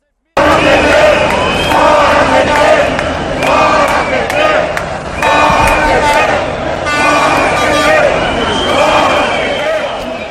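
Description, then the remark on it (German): A loud street protest crowd in Brazil around the football World Cup, chanting and shouting continuously, with car horns honking in repeated bursts throughout, a dense, steady roar of voices that never lets up. “Was man aber auch immer wieder hören konnte vor und während der WM, das waren die vielen Proteste, denn die Brasilianer, die waren so richtig sauer.”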